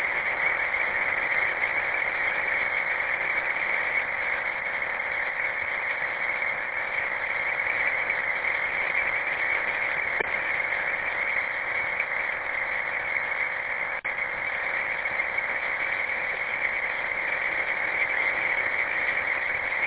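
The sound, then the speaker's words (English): A steady, buzzing digital data signal, a 30-second digital radio message reminding listeners of a picnic, fills the whole stretch: a dense band of constant tones sitting in the midrange with no pauses and no voices, holding an even, loud level throughout. “Stand by for digital traffic.”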